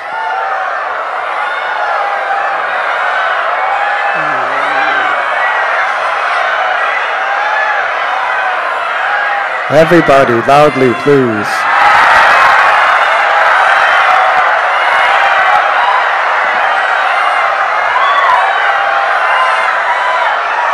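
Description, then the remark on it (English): A large crowd fills the air with overlapping shrill, wailing cries imitating peacock calls, rising in a burst around the midpoint and continuing noisily, with a voice briefly urging them on. “And all the boys would start dancing like peacocks and making the sounds of the peacock.”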